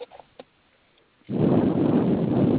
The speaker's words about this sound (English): It does sound like wind.